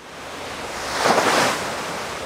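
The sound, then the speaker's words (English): Broad, rushing ocean wash swells up to a peak midway, a wave surging and breaking, then eases back into a steady roar of open water and wind; 20-foot swells in open ocean south of Chile, tossing a research ship. “But as we sail south from Chile and through open ocean, 20-foot swells toss it around like it's a little dinghy.”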